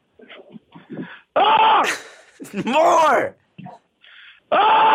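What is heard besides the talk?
person screaming loudly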